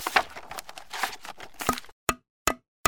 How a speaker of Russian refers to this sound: Сейчас мы ее повесим. Надо только гвоздь в стену забить. Где же у нас молоток? Ага, вот он. И гвозди тоже тут.